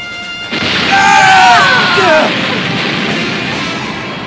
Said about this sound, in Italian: Qualcuno chiami i pompieri! C'è stata un'esplosione!